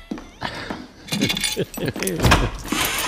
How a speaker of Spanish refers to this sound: ¿Otra vez vais a salir? Toma, portazo. Ahí está.